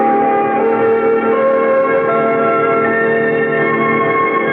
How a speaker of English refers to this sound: What are those bells?